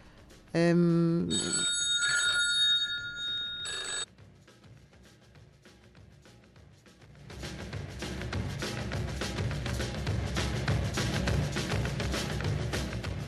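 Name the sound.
mobile phone ringing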